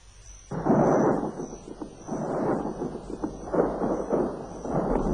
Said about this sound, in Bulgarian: Гръм и мълнии. Лятна буря иде.